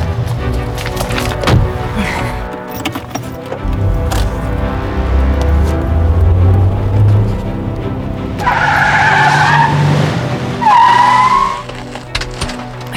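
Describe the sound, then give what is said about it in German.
A car roars up with engine rumble, then its tires squeal and skid sharply in two loud bursts as it pulls to a stop. “Da vorne steht mein Wagen. Ich muss ihr helfen.”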